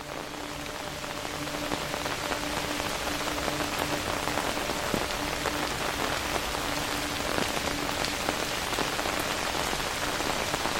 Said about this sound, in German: Mit Vorfreude setzt du deinen Weg fort, begleitet vom beruhigenden Klang des Regens.